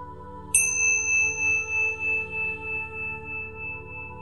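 A single meditation chime, marking the return to the verse in a guided contemplation, is struck once, a bright, high ringing tone that wavers and slowly fades over a steady low hum. No one speaks.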